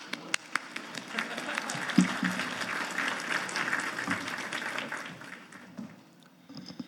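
An audience applauds to welcome a speaker to the stage, a dense patter of many hands clapping at a steady level for several seconds before thinning out and fading toward the end.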